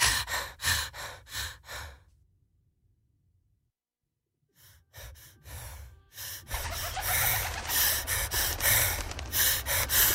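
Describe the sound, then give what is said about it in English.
Someone pants in quick, short breaths, stops for a couple of seconds, then resumes with faster, heavier gasping that grows louder and more continuous. “But here comes the sound of someone breathing in short pants.”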